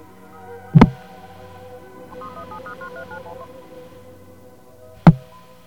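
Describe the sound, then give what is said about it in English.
A phone is picked up and a quick run of telephone keypad dialing tones follows as a number is dialed to reach an operator, several short beeps in rapid succession over a steady low hum, with a sharp click before and another after. “I might hit one too many digits there.”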